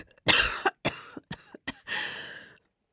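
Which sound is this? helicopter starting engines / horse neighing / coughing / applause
coughing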